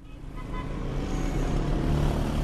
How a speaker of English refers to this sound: Long lines of cars are a familiar sight in Tehran, crowding the streets, jamming intersections, and circling endlessly in search of parking.